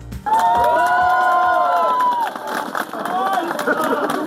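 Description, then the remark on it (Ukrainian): A crowd yelling "shame" together in long, drawn-out chanted shouts, loud and sustained, with a second wave of shouting after a brief dip and some scattered clapping mixed in, as the scaffolding is taken down from a new theatre building at the presentation of its facade. “Під вигуки ганьба та оплески з будівлі театру таки скинули решетування.”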